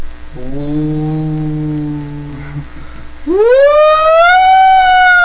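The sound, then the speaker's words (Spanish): An ambulance siren blares loud, holding a steady low tone before sweeping upward into a high, rising wail, with no voices over it. “Pinches ambulancias.”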